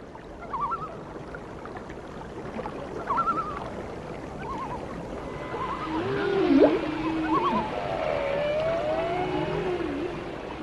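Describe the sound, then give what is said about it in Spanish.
Drawn-out underwater blue whale calls, moaning and sweeping up and down in pitch, repeat over a dull watery rumble, growing fuller and more layered partway through. No one speaks. Blue whales migrate from Alaska past Canada to the northern United States and Baja California. “Lo mismo hace la ballena azul desde Alaska, pasando por Canadá hacia el norte de Estados Unidos y de ahí a Baja California.”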